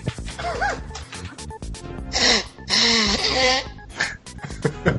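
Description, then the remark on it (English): Two loud, hissy bursts of nose blowing, the second one longer and rougher, with voices and bits of laughter around them. “I'm gonna blow my nose real quick.”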